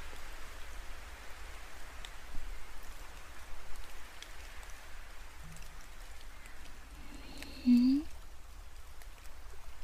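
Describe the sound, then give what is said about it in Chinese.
Steady, even rain patters down continuously during a sun shower, a soft hiss of drops on surfaces throughout, with a couple of brief faint sounds rising briefly above the shower near the end. “这是太阳雨吗？啊，像刚才的天气，就是太阳雨啦。”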